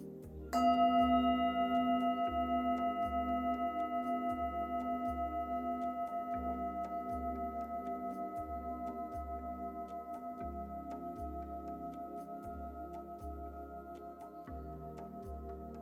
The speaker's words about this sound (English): We'll begin and end the meditation with the sound of the bell.